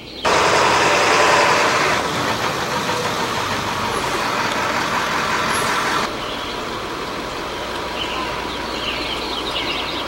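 A large vehicle engine idles and rumbles steadily, loudest for the first few seconds before easing to a lower, continuous drone, with faint bird chirps in the background and no talking.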